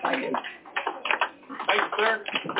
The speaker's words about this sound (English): One of the veterans just came out and was coming down the hallway, and you can hear the crowd clapping and reaching out to grab his hand.